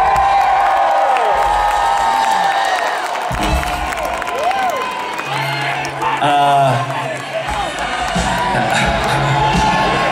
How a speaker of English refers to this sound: Is this the best part of the show or the worst part of the show? Just cheer. Just cheer.